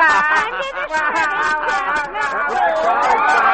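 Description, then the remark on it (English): A loud, dense audience crowd of overlapping voices shrieking and shouting excitedly while a man recites with a big cigar, a continuous wall of raucous cheering and yelling with no single voice standing out. “The crowd is screaming, having fun.”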